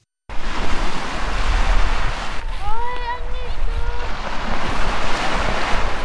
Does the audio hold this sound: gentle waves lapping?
yes